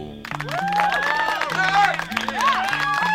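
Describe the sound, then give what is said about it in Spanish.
A crowd applauds and cheers loudly for a band, with whoops and whistle-like calls rising over steady clapping, while a low musical bass line plays underneath throughout. “Fuertes aplausos para ….”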